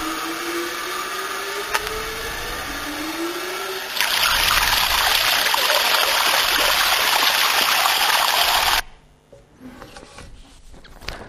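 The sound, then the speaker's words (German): A steady hiss of water rises abruptly into a loud, broad rushing gush of rusty, contaminated water from a fire hydrant, holding strong for several seconds before cutting off to near silence. “Der Hydrant ist doch an einer Quelle angeschlossen, an einer guten Wasserquelle, da kommt reines Wasser.”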